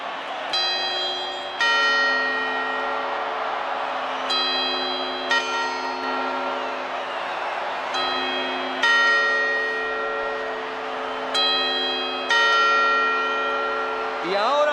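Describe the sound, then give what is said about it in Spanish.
A clock bell rings the quarter chimes before midnight, a series of resonant strikes at a steady, unhurried pace, each tone ringing and overlapping the last, over a crowd murmur. “Cuartos.”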